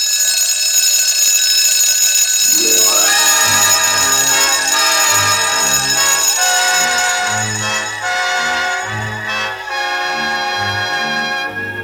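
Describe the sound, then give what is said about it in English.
Tickety-Tock, a little alarm clock, rings loudly and nonstop to wake a farmer, a harsh high jangle joined early on by a rising sweep and then choppy, pulsing tones underneath. No one speaks. “And when Tickety-Tock heard that, he rang louder than ever.”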